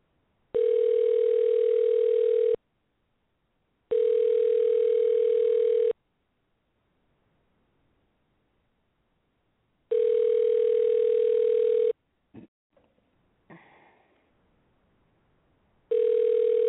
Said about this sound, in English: Let the phone ring.